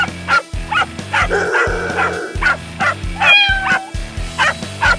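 A dog barks repeatedly in quick, yappy bursts, some with whining, high-pitched yips, loud, with no one talking.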